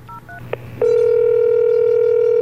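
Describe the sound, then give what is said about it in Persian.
A few quick telephone keypad beeps and a click as someone dials a number on a phone while on a bed, then a loud, steady phone line tone that holds unbroken to the end. No one speaks. “همونجا رو تخت گوشی رو برداشتم و شمارش رو گرفتم.”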